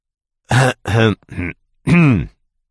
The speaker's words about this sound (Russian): Откашлялся он и пошевелил кожей на лбу.